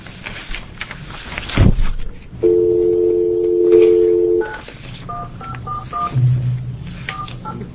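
A sharp click, then a steady dial tone hums for about two seconds before a quick series of short, beeping touch-tone presses dials a telephone number to call the superintendent.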